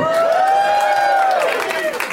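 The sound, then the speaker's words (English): A live audience in a very hot venue cheers and applauds loudly in a steady roar, making noise for the heat, with a long, sustained high-pitched whoop carrying over the noise before fading. “Make some noise for the heat, everybody!”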